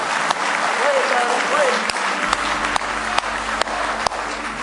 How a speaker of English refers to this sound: Somebody say glory. Somebody say hallelujah. Let's give him one more hand clap of praise tonight.